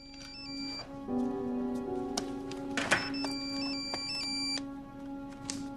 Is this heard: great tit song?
no